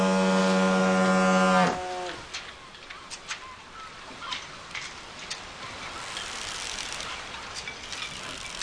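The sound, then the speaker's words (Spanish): A deep foghorn blast on the coast fades out, leaving sporadic hollow knocks and clacks of passing sailing ships' rigging against their masts, irregularly spaced over a soft, windy background. “Al paso de los veleros con el golpeteo de las jarcias sobre la arboladura y a la pujanza de los astilleros en plena labor.”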